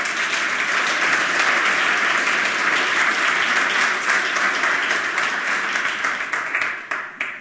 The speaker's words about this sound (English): Please give him a round of applause of welcome.